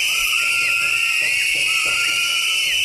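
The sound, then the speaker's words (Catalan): A crowd of about a hundred residents whistling in protest in front of the town hall, in support of a council motion that failed: many shrill overlapping whistles forming a dense high-pitched din with rising and falling blasts. “Aquests que sentim són el centenar de veïns que ells van concentrar davant de l'Ajuntament per fer aquesta xiulada, per mostrar el seu suport a la moció, que no va prosperar.”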